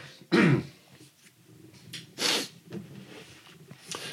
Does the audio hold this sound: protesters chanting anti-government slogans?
no